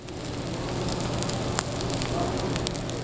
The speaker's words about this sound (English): A 25-ounce grass-fed bone-in filet sizzles on the grill at Anton's taproom.